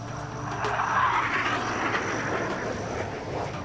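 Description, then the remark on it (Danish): A steady, broad engine roar of a military transport aircraft fills the whole stretch, swelling slightly in the middle, with a droning low hum beneath it and no voices. “Nej, han bliver hentet af et militært transportfly.”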